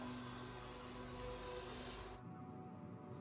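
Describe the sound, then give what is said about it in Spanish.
A vacuum cleaner runs with a loud, steady whirring roar and a faint whine as police vacuum the interior of a car to find hairs and fibres, then its sound suddenly drops to a duller, muffled hum after about two seconds. “La policía toma varias prendas de ropa y limpia el interior con una aspiradora para hallar cabellos y fibras.”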